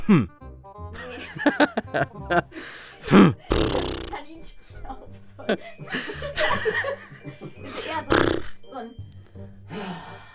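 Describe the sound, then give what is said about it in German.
Someone mimics an angry rabbit's snort with a few sharp, breathy nasal bursts, scattered among chuckling and casual talk. “Das wütende Schnaufen?”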